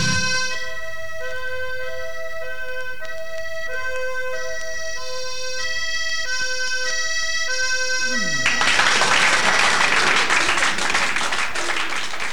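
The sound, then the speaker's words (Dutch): A bright, chiming melody plays for several seconds, then gives way to a loud burst of crowd applause that fills the last few seconds, dense and steady to the end. “Applaus, applaus.”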